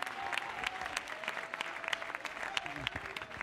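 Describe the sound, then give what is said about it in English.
An audience claps hands together in praise of God, a steady, dense patter of many overlapping claps, sustained at an even loudness throughout, with a faint murmur of voices underneath. “Go ahead and clap your hands unto him and bless his name.”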